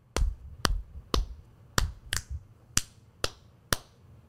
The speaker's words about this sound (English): All right, so snaps and claps.